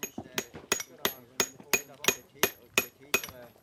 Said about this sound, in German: Bewaffnet mit Hammer und Meißel sind 20 fleissige Hände oberhalb von Gastein am Schamserberg am Arbeiten. Sie sind am Stein sortieren, schichten und in die passende Form zerschlagen, dass am Schluss eine Trockenmauer entsteht.